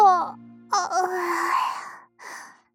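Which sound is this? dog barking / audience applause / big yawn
big yawn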